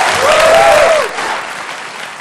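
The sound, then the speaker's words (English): Steady audience applause, a dense wash of many hands clapping at once, with a brief whistle or cheer rising over it early on before the clapping thins slightly. “I want to thank you and give her a round of applause.”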